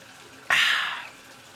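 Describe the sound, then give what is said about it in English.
Hot water bursts from a tap into a bathtub the speaker is sitting in, to heat the bath, with an abrupt hissing gush that tapers off after about half a second, with no talking over it. “Oh, I got to put some hot water in this bitch and get a drink of water.”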